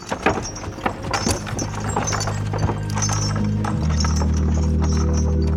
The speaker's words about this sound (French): Et voilà la charrette du condamné qui approche.